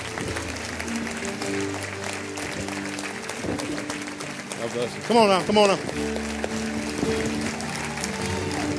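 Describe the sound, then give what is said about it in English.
A crowd claps steadily throughout to encourage a man, a dense patter of many hands, while a man speaks loudly over it and a brief cheer rises near the middle. “Let's keep clapping for him now.”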